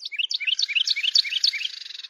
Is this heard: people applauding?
no